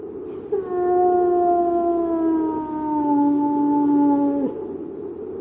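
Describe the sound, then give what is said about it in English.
A hound lets out one long, mournful howl that holds steady for about four seconds, slowly sinking in pitch before cutting off, fairly loud over a faint low background rumble. “heralded always by the appearance of the hound. Fear then this spirit, and seek not to hear its cry, for it summons a man of Hugo's blood to his death.”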